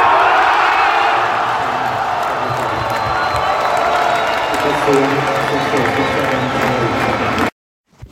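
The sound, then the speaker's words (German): A large stadium crowd at a tennis match roars and cheers continuously, chanting "Tschechien" (Czech Republic), as the Czech women's doubles pair wins 10:8 in the match tiebreak; loud and slightly distorted, before cutting off abruptly near the end. “Gut, das war jetzt unschwer am Jubel zu erkennen, wie die Partie ausgegangen ist.”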